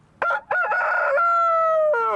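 A rooster crows loudly on a farm, a single full cock-a-doodle-doo with a couple of short opening notes followed by a long, sustained, slightly falling final cry.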